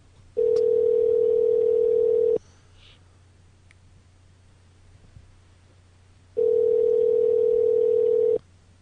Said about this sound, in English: Must be a home phone.